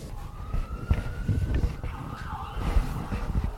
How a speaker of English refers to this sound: No, the police sirens in the background were just purely coincidental.